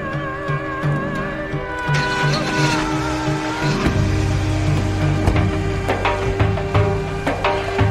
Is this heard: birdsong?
no